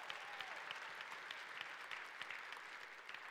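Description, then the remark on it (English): A church crowd applauds steadily to show love for those watching via video online and at other campuses, a dense wash of many hands clapping at an even level throughout, with no voices standing out. “Would you just, by way of applause, let them know we love them?”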